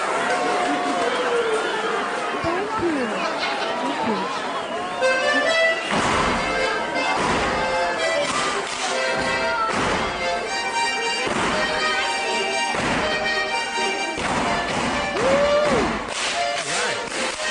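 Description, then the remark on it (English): Sharp, rhythmic slaps and stomps of Bavarian Schuhplattler dancers from the west side of Milwaukee striking thighs and shoes in the evening, loud, ringing out in bursts over lively folk music and a murmuring crowd. “This is called Bavarian Schuplattler. There's some glocking going on here.”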